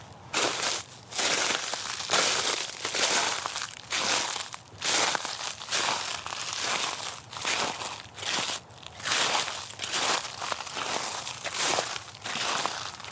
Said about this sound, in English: Quick wintry sound effects break. Going to give you some walking on frosted grass and leaves.